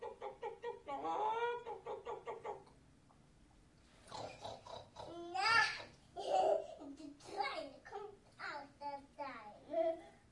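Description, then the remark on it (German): A young child's high, sing-song voice mimics a rooster's crow, calling "Kikeriki," a rising, drawn-out call set among bursts of excited childish chatter. “Mama, gib mir den Hahn hier. Der fliegt dir weg. Kikeriki!”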